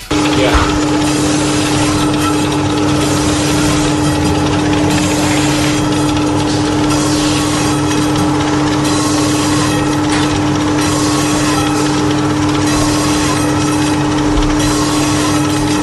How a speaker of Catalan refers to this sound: quin embotit està tallant la màquina? Ah, estan tallant una... Estan tallant... Ja m'ho semblava a mi, dic, aquí estan tallant alguna cosa. Estan tallant un embotit.